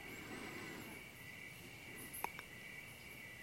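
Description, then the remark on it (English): A steady, continuous chorus of crickets trills in the background, fairly faint and unbroken, with a couple of brief clicks partway through. “And the crickets here, the trees, the animals.”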